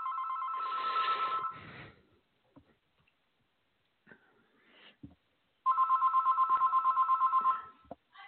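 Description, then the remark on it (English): A telephone rings with an incoming call: two bursts of a bright, rapidly trilling electronic bell, each about two seconds long, separated by a pause with faint clicks and rustles. “Sorry about that. Phone call coming in.”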